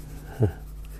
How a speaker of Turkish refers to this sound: Şu da düz bir çizgi çiziyorum. Çünkü buraya bir göl yapıyorum.